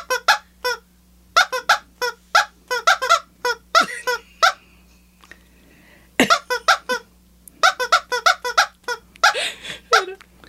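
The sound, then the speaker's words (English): A squeaky toy being squeezed over and over, producing bursts of shrill, wheezy squeaks in quick irregular clusters, loud, with a brief pause midway and a soft thump before the squeaking resumes. “Can we get some clucking with that? Yeah. I'm a bad squeezer.”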